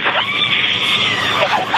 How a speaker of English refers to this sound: Hear that screaming inside the capsule? And all three pair air cushion that will kick up the dust. It's a very soft landing despite the sporty. They're screaming their heads off. It was distorting the audio. They were screaming so loud.